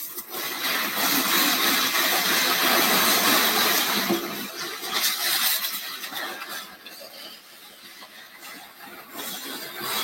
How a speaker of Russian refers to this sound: Из Кремля кортеж автомашин в сопровождении эскорта мотоциклистов направился в аэропорт.